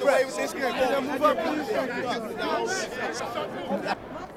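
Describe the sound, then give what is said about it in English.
A large crowd at the March for Justice for Sean Bell fills Fifth Avenue in New York after breaking through barricades and closing down traffic. It makes a dense, continuous murmur of overlapping voices, fairly loud and steady, with no single speaker standing out. “And the crowd has broken through the barricades and has taken over Fifth Avenue and has closed down traffic.”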